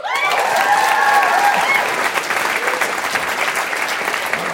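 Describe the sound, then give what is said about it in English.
A crowd at a live show bursts into steady applause for people integral to creating the show, with a few high whoops and cheers riding over the clapping at the start before it settles into dense, even hand-clapping that continues throughout. “who are integral to the creation and development of this show who are not here tonight and would love if people could give them a little round of applause.”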